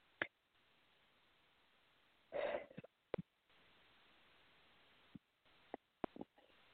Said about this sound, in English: Excuse me, see, I am belching